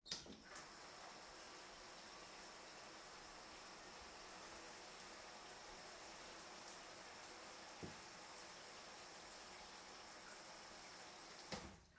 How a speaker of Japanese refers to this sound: えい、ウェルカムシャワーでーす。